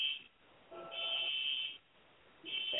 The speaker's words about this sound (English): Alarm is going off.